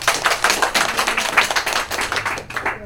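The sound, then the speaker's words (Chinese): A crowd applauds to encourage a speaker, with a dense, steady patter of many hands clapping at once. The clapping stays fairly even, then thins out and fades near the end, with no voices over it. “谢谢，掌声鼓励他吧，谢谢。”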